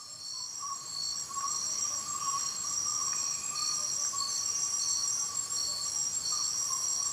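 A recording imitating jungle ambience, played as a relaxing zen moment, dominated by a dense, unbroken insect chorus: layered high-pitched buzzing and trilling at a steady, moderate level, with a lower droning whine and a few faint chirps scattered throughout.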